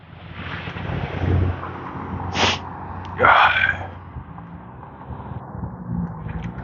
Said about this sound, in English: Sniff snort.